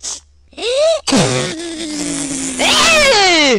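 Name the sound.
nose blowing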